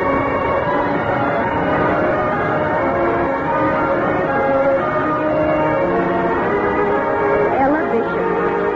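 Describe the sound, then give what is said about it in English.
A school bell rings on and on, loud, a steady metallic clang that never stops, with a busy murmur of voices filling the background. “I remember the excitement of hearing the school bell.”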